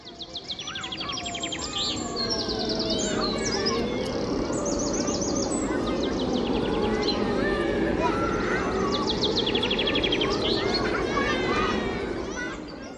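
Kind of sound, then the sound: bird, birds chirping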